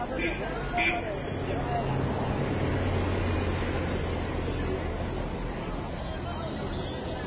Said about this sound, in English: There must be about 20 buses on the street right now. I haven't seen any cars. This is just like some kind of bus commune.